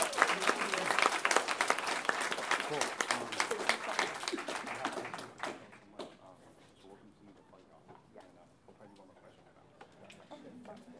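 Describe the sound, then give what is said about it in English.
An audience breaks into dense, loud applause for student activists, with rapid overlapping claps for about five seconds, then it quickly thins out into faint scattered clapping and low murmuring. “But a round of applause for student activists.”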